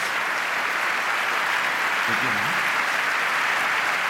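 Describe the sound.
Steady, dense audience applause fills the whole stretch, a loud continuous wash of clapping with a brief voice surfacing faintly underneath midway.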